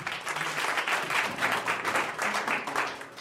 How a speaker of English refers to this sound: Let us give the Lord a round of applause.